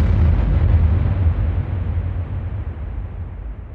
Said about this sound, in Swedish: Men med det sagt så har det blivit dags att slå i gonggongen.